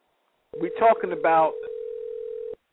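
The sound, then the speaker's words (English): A steady telephone tone drones at one unchanging mid pitch for about two seconds. A short burst of muffled voice sounds over its first second, then the tone continues alone and cuts off. “Brother, I can hear that phone.”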